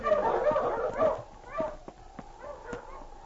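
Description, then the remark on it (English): A team of sled dogs barks and yelps in an excited cluster, then quieter scattered yips follow, along with a few sharp clicks or knocks, with no talking. “The man who stopped me walked ahead of the dog team.”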